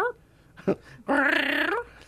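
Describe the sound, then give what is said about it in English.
A voice imitates the cry a cat made when waking its owner in the morning: a short grunt, then a long, loud, wavering meow-like whine of about three-quarters of a second, strained and nasal, with no other talk. “Oh, my cat woke me up this morning. He was going.”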